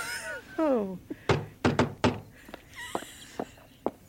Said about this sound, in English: Oh. Someone at the door.